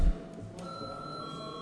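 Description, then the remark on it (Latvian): The Saeima parliament chamber bell rings before a vote as a steady, continuous electric tone, holding an even pitch at moderate volume for over a second with no voices over it. “Vai lūdzu zvanu?”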